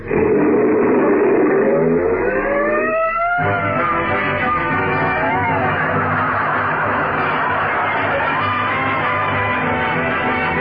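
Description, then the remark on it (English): A car engine revs loudly, its pitch climbing as it accelerates, then settles into a steady roar as the vehicle drives off, the sound continuous throughout. “I'll drive.”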